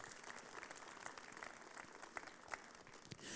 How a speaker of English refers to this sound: It's commencement Sunday. We are sending out the seniors into the world. You've done your job. You've graduated. Congratulations, seniors. We can clap for that.